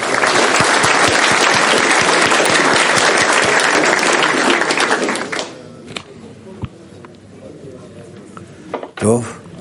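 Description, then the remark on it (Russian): Loud, dense applause from a crowd fills the first half, then cuts off abruptly, leaving quieter background murmur with a few scattered clicks and a brief sharp sound near the end. “Так что, ну, буквально аплодисменты и огромная любовь от всех групп мирового Кли за то, что они сделали, соединив все десятки мирового Кли группами.”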